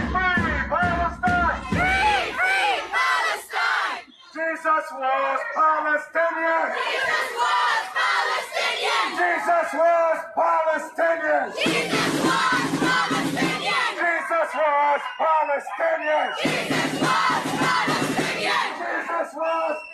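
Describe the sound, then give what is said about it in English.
A large crowd of Hamas supporters jeers and shouts at families with kids visiting Santa Claus at Yorkdale Mall, in loud, overlapping bursts, with chanted yells swelling and fading repeatedly over about twenty seconds, continuous. “They're with their kids trying to sit on Santa's knee, and you can hear the jeers and the shouting of the crowd.”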